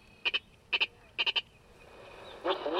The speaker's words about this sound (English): Here's the Virginia rail.